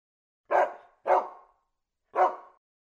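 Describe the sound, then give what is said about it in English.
A dog on a farm barks three times, two quick barks close together, then a short pause before a third. The barks are loud and sharp, with silence between them and no voices. “I have got a dog.”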